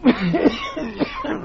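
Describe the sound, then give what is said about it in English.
A man coughs several times in quick succession, harsh, throaty bursts with short gaps between them and no talking, in damp underground vaults beneath a river. “Why, is the moisture perhaps too much for your cough?”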